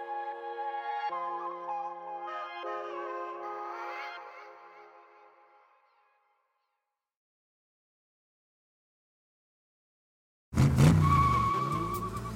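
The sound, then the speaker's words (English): Car tires squeal loudly in a long, screeching skid that gradually fades away, followed by a few seconds of silence before a sudden loud, rumbling burst of noise. “with eBay Motors, you're burning rubber, not cash.”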